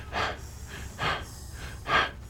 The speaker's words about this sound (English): And then the sound continues, and we hear … heavy breathing through the gas mask he's wearing.